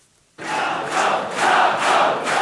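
A large crowd at Rafał Trzaskowski's presidential election night vigil in Warsaw, Poland, erupts into loud cheering and shouting as the exit poll is presented, after a brief near-silence, the roar swelling in waves and staying sustained, with no distinct speech.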